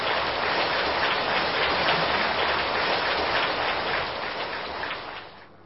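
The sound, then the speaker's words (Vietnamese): Long, loud applause from a crowd at a ceremony at Dị Mỹ pagoda, a dense crackle of many clapping hands that holds steady for about five seconds before thinning out and fading. No one speaks over it. “Một tràng vỗ tay thật dài và lớn lớn hơn nữa.”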